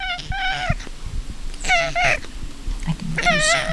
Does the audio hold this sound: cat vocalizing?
yes